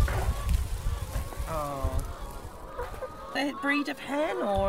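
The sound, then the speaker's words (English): A red hen, about 53 weeks old, clucks repeatedly, its short, tonal calls rising and falling in an uneven rhythm over low background rumble. “Yeah, it's a red hen, Landrumster right name.”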